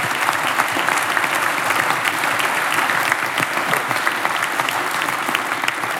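An audience at a German-language talk about drug testing claps steadily for several seconds, applauding a person who agreed to speak openly about their drug use; a dense, even wash of many hands with no pauses and no voices rising above it.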